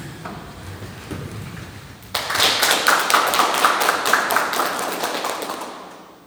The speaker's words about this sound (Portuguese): declaro aberta a sessão e convido para todos em pé, saudamos o pavilhão nacional com uma salva de palmas.